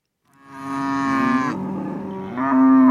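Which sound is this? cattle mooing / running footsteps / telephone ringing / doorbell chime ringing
cattle mooing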